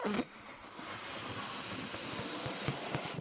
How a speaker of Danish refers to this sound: Så hvis man tager sin fødselsballon og puster ind i den, så gør man jo det, at man får gummiet, som den her ballon er lavet af typisk. Det begynder at udvide sig, fordi man puster molekyler ind i.